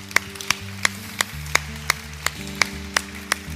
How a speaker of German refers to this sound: So mutig, dass ihr aufgestanden seid. So mutig. Ich möchte euch da wirklich einen Applaus geben.